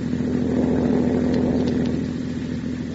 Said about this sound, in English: It is 2 a.m., and the folks of River's End are all sound asleep as Judy's car rolls down deserted State Street.